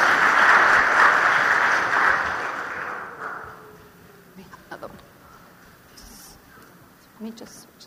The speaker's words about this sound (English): So let's give them a round of applause as they come up here.